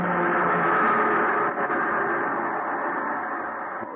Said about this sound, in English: The PE train going by.